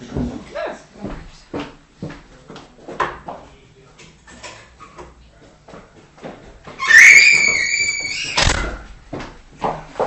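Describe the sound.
A door is pulled shut with a long creak and a loud closing bump, after stretches of people talking.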